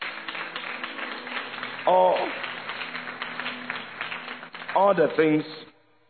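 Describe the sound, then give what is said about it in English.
An audience claps steadily for several seconds, a dense patter of many hands, with a couple of loud voices calling out over it before the applause fades. “You can clap.”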